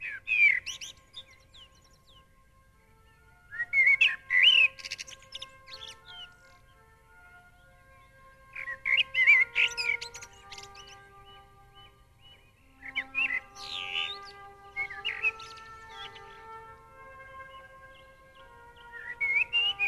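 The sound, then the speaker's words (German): A blackbird sings fluting, warbling phrases in bursts every few seconds, clear, with quiet pauses between each phrase and no voices. “Lauscher gibt der zutraulichen Amsel Krümel von seinem Brot.”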